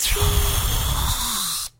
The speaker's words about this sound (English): That was probably really loud. Yeah, it probably was. Uh-huh. Spraying Axe all over himself. It's shaving cream.